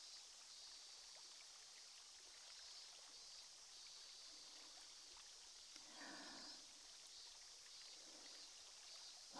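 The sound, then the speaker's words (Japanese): Steady fizzing and crackling like tiny bubbles popping from a carbonated cotton swab inserted in the ear during ear cleaning, with a brief soft rustle partway through; no talking. “とした感触と炭酸の音、気持ちいいですよね”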